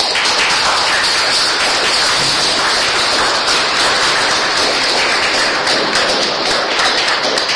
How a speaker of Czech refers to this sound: děkuji za obohacení a myslím, že mu můžeme zatleskat.